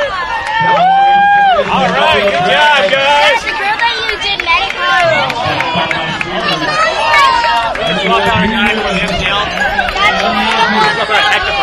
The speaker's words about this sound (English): 2009 San Marcos Criterium, five and under, are sprinting to the finish line. And what a race we have at five and under. That'll do. Red Helmet taking first place. And now come on, Pink Helmet. Listen to the crowd go wild.